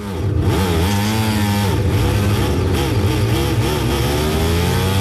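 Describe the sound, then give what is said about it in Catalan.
Several racing motorcycle engines roar together, their pitches rising and dipping as they rev hard and accelerate off the line at a race start, shown in a replay in which Marc Márquez makes a bad start; a loud continuous mechanical blare with no talking. “Ara ens ofereixen la repetició de la sortida, mala sortida de Márquez, ha tingut algun problema amb algun...”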